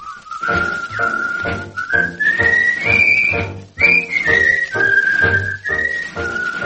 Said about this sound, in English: Throughout the ages, strong men have always whistled under fire. No matter how dark the day has been, those who've had the courage whistled it through. During the Great War to save democracy, English Tommies whistled.